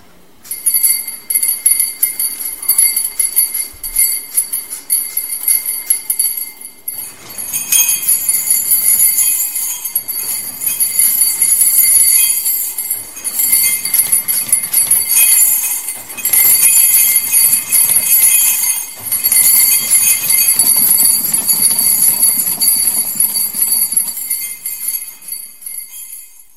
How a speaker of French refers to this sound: Qu'est-ce qu'on vient d'entendre? Oui, donc on vient d'entendre 6 moteurs, 6 grosses tiges d'acier, 6 verres et plusieurs rondelles. En mon anglais, c'est des washers. OK, c'est des washers qui sont dans un verre.